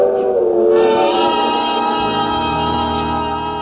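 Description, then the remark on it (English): A freight train heading south toward the town of Denton rolls past, its loud, steady rumble layered with a sustained metallic, droning whine that holds evenly for a few seconds. No one speaks. “The train starts past.”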